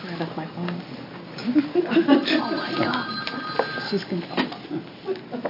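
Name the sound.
mobile phone ringing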